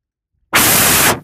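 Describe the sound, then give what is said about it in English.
A loud, harsh rush of wind noise at the beginning of a recording bursts in abruptly, holds steady for about half a second, then cuts off, with no voices. “Because I know the beginning of it, it's kind of windy.”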